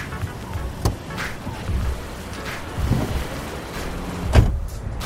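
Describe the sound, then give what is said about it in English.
A car arriving to pick someone up in Malibu rumbles low and steady, with a couple of sharp clunks like a door or latch. A few soft swells rise over the engine hum, and no one speaks. “Looks like your ride's here, so I better leave you to it.”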